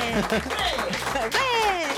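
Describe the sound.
A man on an RTL radio show claps his hands for himself in a steady patter of applause, partly buried beneath overlapping voices and an excited, rising exclamation.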